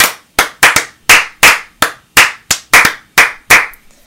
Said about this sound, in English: Wow. Synchronized clapping.